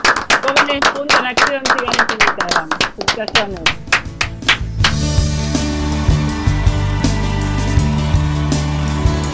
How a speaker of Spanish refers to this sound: Así que nada, con un fuerte aplauso nos despedimos. Nos vamos.